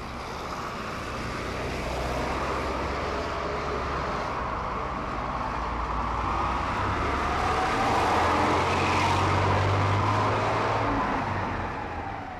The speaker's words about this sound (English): Hurry up, that's our bus.